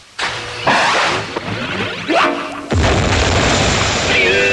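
A loud, close explosion sound effect: a few rumbling bursts and a rising whoosh build to a big blast that sustains as a dense, roaring crackle to the end.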